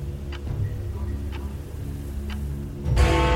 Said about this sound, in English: When 11 o'clock sounded, I almost leapt out of my skin. The clock pealed like a gong, each swell building on the last until the atrium seemed like it would tear and burst at its seams from the noise.